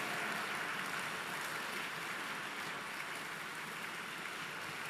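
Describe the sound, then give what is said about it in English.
A crowd claps steadily together, a dense, continuous patter of many hands at an even level for several seconds, with no voices standing out, as an audience responds to a preacher's call to put their hands together after a prayer in the name of the Lord Jesus. “Put your hands together.”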